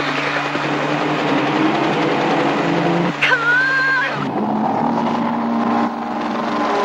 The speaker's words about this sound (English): They trail Lucky as he passes more cars, speeding into the outskirts of Las Vegas.